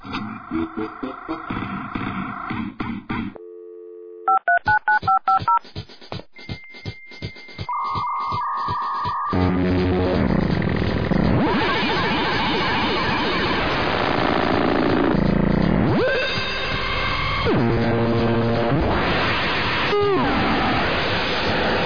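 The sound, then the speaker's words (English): A computer's dial-up modem dials a quick series of touch-tone beeps, then screeches into a long, loud handshake of warbling tones and hissing static bursts that shift and pulse until connecting to the internet to download a radio show. “Start the computer and the modem to hear the show that I'll be downloading.”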